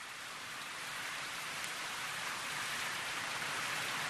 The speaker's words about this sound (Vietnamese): Mưa dầm dã mấy ngày đêm, mưa trắng núi trắng rừng, trắng trời cao đất thấp.